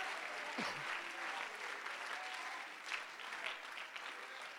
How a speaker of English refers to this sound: if you're glad to be part of the church, clap your hands and tell Jesus you're thankful about it